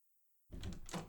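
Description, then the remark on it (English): After a moment of silence, a door opens with a short, solid clunk and a brief rattling, creaking swing, opened for someone arriving with their hands full of gifts. No one speaks. “Come bearing too many gifts to open the door. A little help?”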